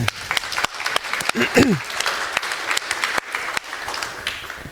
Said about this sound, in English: I would like to know of you, who is for the first time here at FrostCon? Please raise your hand. Oh, wow. Many, many people. Big applause to you.